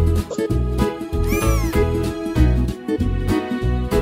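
A cat meows once, a clear rising-and-falling mew in the middle, heard over a steady, bouncy backing of rhythmic music that continues throughout.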